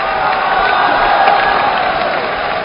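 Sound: audience applause and cheering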